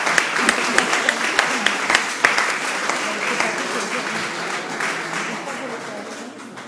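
An audience breaks into sustained applause, with many hands clapping in a dense, crackling wash that stays strong and gradually eases off toward the end.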